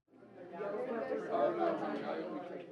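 A steady wash of chatter from about 60 people at a free community dinner in a former Main Street shop in Sharpsburg, eating fried chicken, salad and Italian bread, many overlapping voices blending into a busy, continuous murmur with no single speaker standing out.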